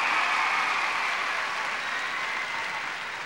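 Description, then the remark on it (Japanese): Sustained applause from a large audience at a Kayō Taishō music awards show, a dense steady wash of many hands clapping that stays loud throughout and eases off slightly toward the end, with no voices standing out. “皆さん盛大な拍手をお願いします。”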